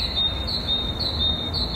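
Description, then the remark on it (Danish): A high, thin bird call, recorded in the morning, repeats about twice a second over a steady, faint background hum, each note brightening briefly in a regular rhythm; after several calls the bird adds one extra call; no one speaks. “Og så efter nogle gange, så kom der lige en ekstra på det, som om den vidste, jeg optog den.”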